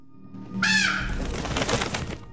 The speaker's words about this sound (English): turns to see a crow come in from the landing through a second door.